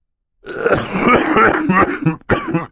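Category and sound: human body sound, cough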